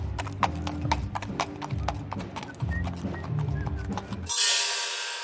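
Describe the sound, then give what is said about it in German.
Horses' hooves clip-clop in a steady rhythm as the horses are led out to warm up on circus grounds, with low droning music underneath, before the sound cuts to a broad hiss. “Und auf dem weiten Zirkusgelände werden Pferde zum Aufwärmen ausgeführt.”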